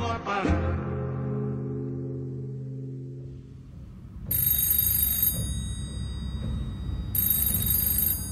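telephone ringing

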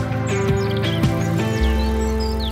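european robin singing

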